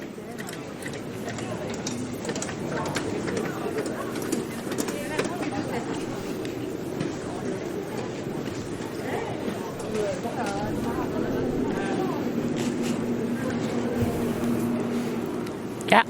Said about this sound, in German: Ah, die Müllabfuhr. Typisches Geräusch. Die Müllabfuhr.